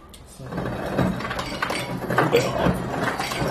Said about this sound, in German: Erstmal kurz ein bisschen ASMR. Achtung, Eiswürfel. Gegen den Rücken. Klong, klong, klong.